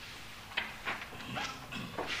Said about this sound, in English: Sound of turning pages here now, just to prove that this is all going out live, or at least was recorded that way.